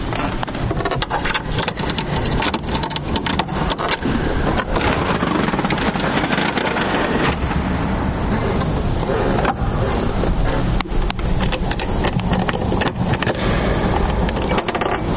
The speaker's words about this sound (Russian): Вимкнувся орган і на горі запрацював вентилятор, який працює зверху вентилятор і буде подавати повітря тільки тоді, коли я буду включати регістри. Сам по собі орган не грає.